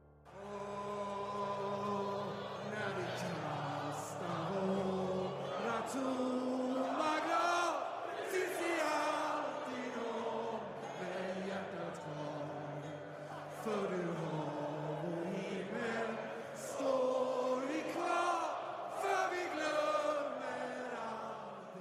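The IFK Göteborg home crowd at Gamla Ullevi stadium sings a song together in unison at the Allsvenskan season opener, loud and sustained, the many voices rising and falling through a melodic line with occasional shouts over the top.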